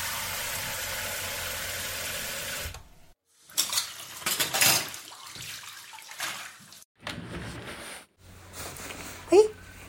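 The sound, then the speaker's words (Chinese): Dishes and chopsticks clink and clatter in irregular bursts as they're cleared up after a dinner in a kitchen, following a few seconds of steady running water from a tap, with a brief voice near the end. “那你快去休息吧，我来收拾碗筷。”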